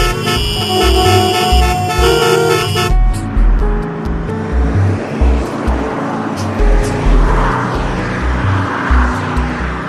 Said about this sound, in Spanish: Pasaron muchos años y el camino se convirtió en la calle principal de un poblado y posteriormente en la avenida principal de una ciudad. Todos se quejaban del tránsito porque el trayecto era el peor posible.